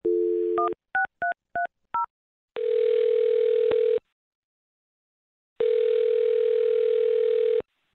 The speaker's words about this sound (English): I'm going to dial his phone number right now then and see if we can get your answer. Here we go.